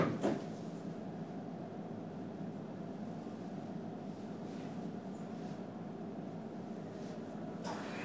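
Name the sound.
train doors closing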